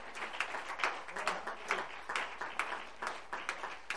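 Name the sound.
audience hand clapping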